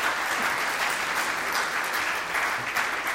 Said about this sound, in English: I just want to clap, and so let's clap for our graduates, because that's a big deal.